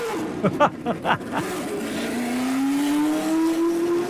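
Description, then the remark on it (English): Mario Andretti's 78-79 black and gold Lotus race car engine coughs and sputters through several uneven bursts as it fires up on the track at Circuit of the Americas, then catches and revs up into a steady, rising high-pitched howl that climbs over the final seconds. “And that was Mario Andretti's 78-79 black and gold Lotus firing up on the track at Circuit of the Americas.”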